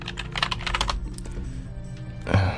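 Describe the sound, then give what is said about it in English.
Rapid clattering keystrokes on a French-layout computer keyboard, fairly loud, with a steady low hum underneath and a brief thump near the end. “hate this keyboard. Clavier en français.”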